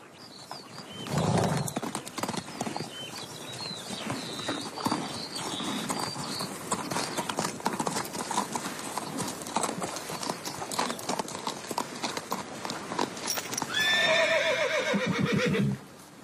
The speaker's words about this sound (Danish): hvad er der med de her heste?